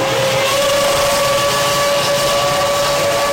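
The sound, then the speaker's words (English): A loud, continuous high-pitched engine scream from Formula One race cars at the start of a race, holding a steady whining tone over a dense roar of noise, with no voices. “This is the start of an F1 race.”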